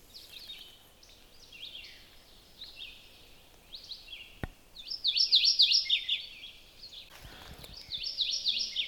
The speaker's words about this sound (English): Again, they're another brush skulking warbler, but if you get a look, there's a lot of yellow on the front. They have like a bib that's gray with a black edge to it. Really pretty birds.